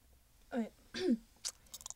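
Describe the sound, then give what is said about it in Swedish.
A short voiced, yawn-like groan with a falling pitch, then an odd burst of breathy hissing and scattered clicky mouth noises, all fairly quiet with no talking. “Det var en gäspling och så kom det något konstigt ljud.”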